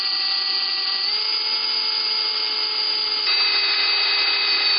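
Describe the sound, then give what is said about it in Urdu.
An electric drill machine whirs continuously with a steady, high-pitched motor whine, its pitch stepping up slightly near the end. Loud, with no voices. “فوراً اپنے آپ کو ڈرائیں کہ تمہارے سامنے ڈرل مشین کپ کپا رہی ہے.”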